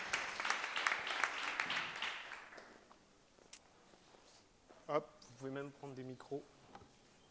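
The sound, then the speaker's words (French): An audience claps in a dense burst of applause for three speakers invited to join a round-table discussion, fading out over about three seconds, followed by quiet shuffling and then a man beginning to speak. “On peut les applaudir, comme ça nous laisse un peu de temps pour nous installer.”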